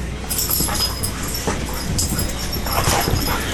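Dogs play-fight and play-bite on a bed in a bedroom, a steady rustle of scuffling on bedding broken by short yips, whimpers and soft growls, with no one talking.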